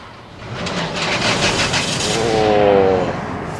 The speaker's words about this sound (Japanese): 一斉に新潟事務所の車両が一斉にエンジンを入れました。